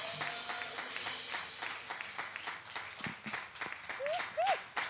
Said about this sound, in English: So would you please stand to your feet and clap your hands and welcome